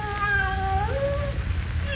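animal, cat yowling

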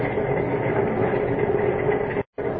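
vehicle, train rolling on rails

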